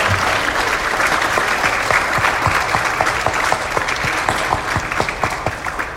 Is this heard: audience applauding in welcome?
yes